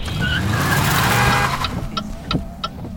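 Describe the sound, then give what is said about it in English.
A car brakes hard with a high tire squeal over engine rumble for about a second and a half, then a few short sharp clicks or beeps follow as it settles. “Now, wings at 10 and 2, Talon on the brake.”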